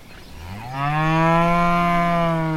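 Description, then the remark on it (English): An angry bull lets out a single loud, drawn-out moo that rises in pitch and then holds steady, with no other sounds or voices. “The cow's angry too. That's not a cow. It's a bull.”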